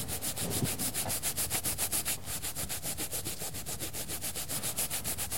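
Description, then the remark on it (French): A toothbrush scrubs a stain on a doll in quick, steady back-and-forth strokes, a dry bristly rasp repeating about four times a second, with a brief break partway through. No one speaks. “Et la brosse à dents, elle va servir à quoi, par exemple?”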